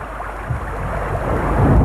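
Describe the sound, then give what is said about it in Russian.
A heavy rain downpour hisses steadily, a dense wash of noise that swells louder toward the end, with no voices over it. “И словно в ответ на его безрадостные слова начался потоп.”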